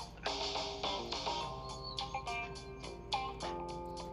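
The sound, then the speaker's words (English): A gate starts opening after a badge scan, creaking with a string of repeated, high-pitched metallic squeaks and whines in uneven bursts over a steady low mechanical hum, with no talking. “You guys can hear the squeaking in the background.”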